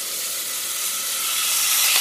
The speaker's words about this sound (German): Jetzt gieße ich das Wasser dazu.